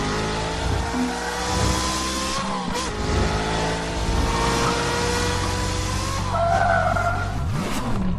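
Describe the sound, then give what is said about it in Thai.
A supercar engine revs hard and loud while tires squeal in sustained, skidding bursts, the roar rising and falling over about eight seconds with no voices. “Koenigseggบริษัทรถยนต์ดาวรุ่งจากสวีเดนซึ่งเป็นเจ้าของรถซูเปอร์คาร์ที่มีความแรงที่สุดในโลกในเวลานี้คือ Koenigsegg 1ที่มีกำลังเครื่องยนต์1,400แรงมาครับ”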